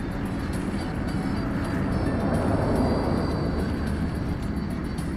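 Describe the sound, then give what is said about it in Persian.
A steady, unbroken airplane engine drone fills the space, a loud low rumble with a broad hiss over it that holds constant throughout, with no voices. “بذار بریم سوار این هواپیما بشیم، بریم تو راه، هر سوالی داشتی من جوابتو میدم.”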